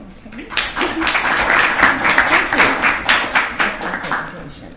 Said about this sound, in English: Let us give David Garza another round of applause. An excellent presentation.